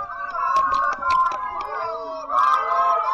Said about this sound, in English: What is that? It's supposed to be crowd booing.